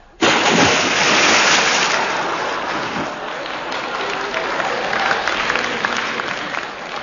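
A loud water splash bursts in abruptly, then gives way to several seconds of steady spattering and churning that gradually eases but never fully settles. No voices are heard.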